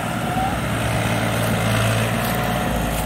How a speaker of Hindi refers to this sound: ये देखे किसान भाइयों दोबारा से फिर बैक गियर में ट्रॉली को चलाते हुए ट्रैक्टर जो है दिशा दशा भूल रहे हैं अपनी गिल्ले की वजह से।